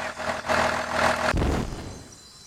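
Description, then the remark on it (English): A boat engine on the Nile River drones with a steady, humming tone, then abruptly breaks into a rough, sputtering low rumble as the boat breaks down. No one speaks. “The engine definitely doesn't sound good.”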